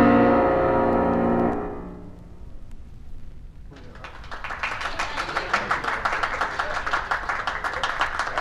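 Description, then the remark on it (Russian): A sustained piano chord rings out and fades away, ending a famous pianist's four-movement performance; a brief hush follows, then the whole audience, Vladimir Ilyich among them, breaks into steady, dense applause that keeps going at a moderate level. “Хлопали все, в том числе и Владимир Ильич.”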